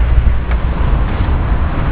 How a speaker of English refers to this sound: We might actually gather in a bit closer because of the traffic noise and stuff.